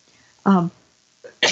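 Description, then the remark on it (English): A single sneeze: a short voiced catch of breath, a pause, then a sharp, noisy burst cut off at the end. No one is talking. “excuse me. Bless you.”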